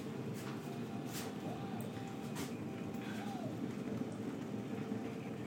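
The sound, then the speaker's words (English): Steady, dense sizzling hiss of food frying, with scattered crackles and pops over a low background rumble, continuous for the whole stretch. “Well, I can smell that cooking. I can hear it sizzling.”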